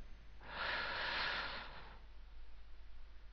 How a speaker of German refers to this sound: Aber bevor wir beginnen, lass uns gemeinsam drei tiefe Atemzüge nehmen. Mit jedem Einatmen entspannen wir uns gemeinsam. Mit jedem Ausatmen blasen wir die Anspannung und Nervosität fort. Wir atmen jetzt gemeinsam ein.